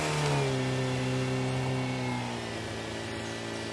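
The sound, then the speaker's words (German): A jeep engine revs hard and steadily while the jeep is stuck at a densely overgrown spot, its strained drone holding loud before easing slightly, with no voices present. “Er drehte sich um und sah, dass der Jeep nun doch an einer besonders dicht bewachsenen Stelle festhing.”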